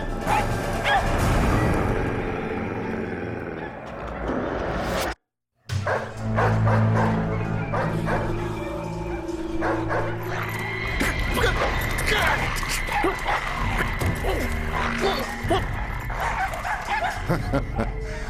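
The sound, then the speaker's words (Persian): Several dogs bark and yip over a steady, crowded background with voices mixed in, the barking loud and continuous, cut by a brief moment of silence about five seconds in. “بی خود صدا میکنن.”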